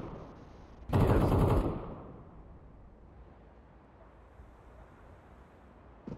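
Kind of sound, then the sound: sound effect, rifle gunshots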